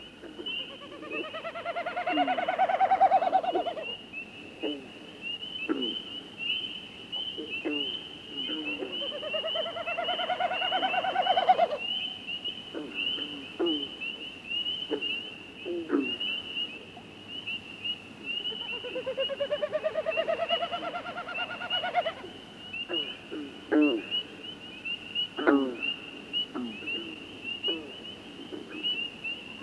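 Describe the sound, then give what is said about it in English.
A snipe's hollow, pulsing winnowing sweeps past overhead three times at night in a moonlit northern marsh, each a few seconds long and rising then fading, over a steady chorus of calling frogs with scattered croaks. “A snipe winnowing overhead as frogs sound off in a moonlit northern marsh.”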